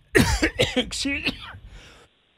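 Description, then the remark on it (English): A harsh coughing fit of four or five rapid bursts in quick succession, sputtering and strained, from a person who choked on a drink, then trailing off into quiet. “Just choked on a drink.”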